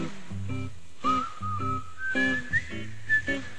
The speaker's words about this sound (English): Whistle with me. Come on, whistle.